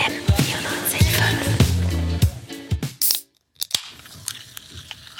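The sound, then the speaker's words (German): A drink is opened with a sharp, bright burst of fizzing hiss, preceded by crinkly rustling and clicking handling sounds, followed by a brief pause and a few softer clicks. “dann sitzt man wieder da und dann kommt dieses zischende, frische Geräusch”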